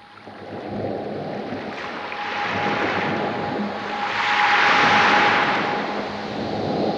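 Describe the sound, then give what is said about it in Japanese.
Sandy beach ambience of rushing, hissing surf that swells and recedes in slow waves, layered with a steady sustained tone and a low rumble underneath; no one speaks. The same beach was recorded at 10 a.m. and 10 p.m., with the morning's high sounds and the night's low sounds mixed and a G-sharp tone emphasized. “朝10時と夜10時、同じ砂浜を録音し、朝の方は高い音、夜の方は低い音をそれぞれ混ぜ合わせ、音階で言うと G シャープの音を強調させて、自然環境音を音楽寄りにした作品です。”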